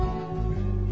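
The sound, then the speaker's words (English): A person demonstrates a cat meow imitation for the audience to make later in a song, with a low, steady, sung tone held for about a second, fairly loud with a rich, buzzy quality and no talking around it. “We need you to make a cat noise that sounds like this.”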